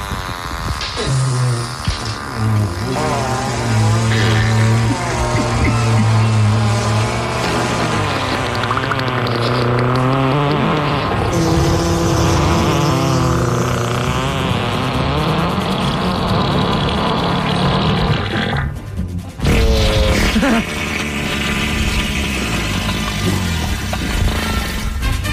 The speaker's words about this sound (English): Can I get a montage of your nastiest fart, since my wife hates it?